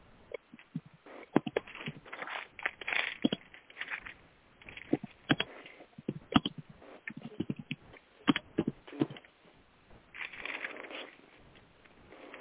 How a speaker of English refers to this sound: Turning pages, that's good. I love the sound of turning pages.